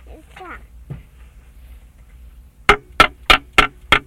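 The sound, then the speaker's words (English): A toy hammer taps on blocks five times in a quick, steady rhythm, each knock sharp and clicky. A brief, soft vocal sound comes before the taps. “That makes a noise. Tap tap.”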